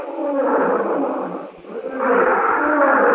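A wild animal lets out a loud, rumbling roar, swelling, dipping briefly, then surging again close by, with no talking over it.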